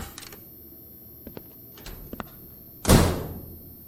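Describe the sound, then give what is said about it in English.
A few soft clicks and taps, then a door swings shut as someone leaves, with a loud slam whose boom lingers briefly before fading. No one speaks. “Just let me show myself the door, why don't I?”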